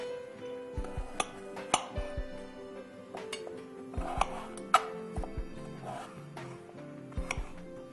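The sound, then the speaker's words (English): A knife taps sharply against a cutting board in an irregular series of chopping strikes, moderately loud, with a faint hum underneath and no talking, as a fresh peeled medium-sized potato is cut into small pieces for boiling. “I'm going to cut it into small pieces because I want to boil it, and in small pieces it boils faster.”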